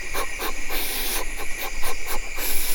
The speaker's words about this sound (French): Alors ça, on a dérangé un grand calao, le Ceratogymna atrata, qui est caractéristique avec son vol. Comme il a les rémiges écartées, ça fait un